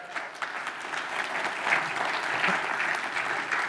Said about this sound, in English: Thanks, Dave. Give Dave a round of applause.